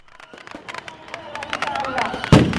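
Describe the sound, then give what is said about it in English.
Celebratory gunfire and fireworks at Martyrs' Day celebrations in Benghazi, Libya, with horsemen firing shotguns into the ground amid large crowds: a dense, irregular volley of sharp cracks and pops, building in intensity toward a loud, booming burst near the end, with faint crowd voices underneath. “Libyans are celebrating their Martyrs' Day as Libyans know best, with gunfire. Not just fireworks and firecrackers, but the famous horsemen of Benghazi are here, in the middle of large crowds, firing their shotguns into the ground”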